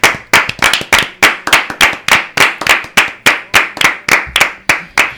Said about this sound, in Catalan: I aquí van arrencar aplaudiments, sí, que avui també els farem aquí per en Rafael, i que aquí a la taula els farem.